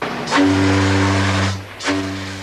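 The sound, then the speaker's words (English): The deep, booming steam whistle of the ocean liner Lusitania gives a long, loud blast, then a second blast. Each one starts with a rush of hissing steam, and there is no talking. “The whistle of the Lusitania sounds over her grave.”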